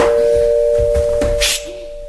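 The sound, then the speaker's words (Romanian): A doorbell rings as a steady, unbroken buzzing tone held for about two seconds, with a short hiss of noise near the end and no voices. “Ai auzit? Soneria.”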